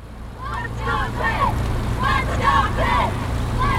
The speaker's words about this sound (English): This is sound from the head of the Ohio, a fall regatta in Pittsburgh. It's just one of the many recreational activities on the river these days.